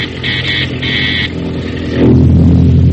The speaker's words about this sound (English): Now the PT's motors are muffled as it tracks the enemy.